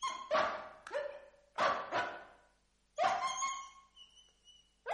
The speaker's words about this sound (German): Warum heult der Hund?